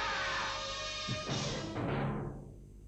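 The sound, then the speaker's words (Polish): A body plummets from a roof, landing with a couple of heavy, dull thuds amid a loud rushing crash before everything fades to quiet. No one speaks. “Zdaje się, że ktoś spadł z dachu.”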